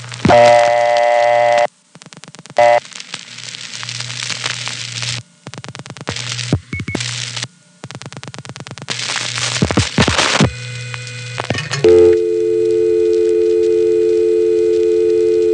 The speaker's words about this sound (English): I have just dialed 660, which in the downstate area is the primary ringback code. This is a test line that installers and repairmen use. And that little tone there is a touchtone test.